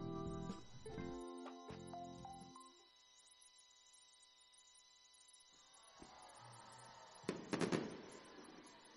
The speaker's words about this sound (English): So you can start to hear the fireworks off in the background as our Star Wars-themed fireworks show will begin here at LP Fran Stadiums.